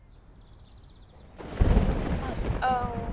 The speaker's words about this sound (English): Heat lightning. We should get indoors.